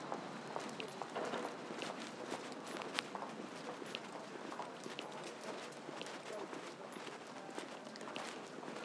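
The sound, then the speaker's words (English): Somebody's hard-soled shoes clip-clop on the pavement on the other side, by the back of Tate Britain, in a run of sharp, fairly regular taps, set against a dense, steady wash of hissing street noise that never lets up. “Sounds like a pneumatic drill up ahead and the clip-clop of somebody's shoes or forward Vance on the pavement on the other side”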